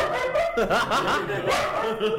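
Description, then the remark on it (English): Bina, a small pet dog, barks and yips in quick, high-pitched bursts, the sound continuing with little pause across the short stretch. “You get to hear Bina bark in stereo.”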